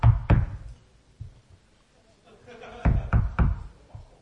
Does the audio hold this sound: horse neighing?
no